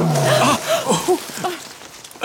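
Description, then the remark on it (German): A tiger roars, a loud, rough bellow followed by a few shorter rising and falling growls that trail off over about two seconds. “Rahu, das war doch wieder der Tiger.”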